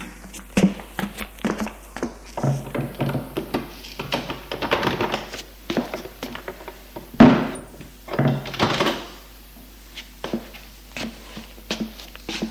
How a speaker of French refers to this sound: elle va se sortir de la chambre et fermer la porte.